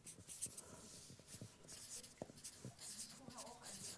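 A marker scratches and squeaks across a board in short irregular strokes, fairly quiet, with soft taps between strokes and a low hum underneath.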